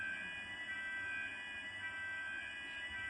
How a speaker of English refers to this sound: okay, that is fire alarm.